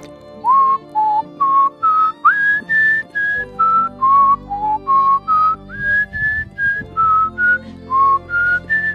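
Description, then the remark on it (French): A person whistles the recurring theme melody of a film, as it first came to mind while writing, about twenty clear notes in steady phrases, some sliding upward, with faint background noise underneath and no talking. “c'est aussi un thème que vous aviez en tête à l'écriture. Vous l'avez siffloté au départ”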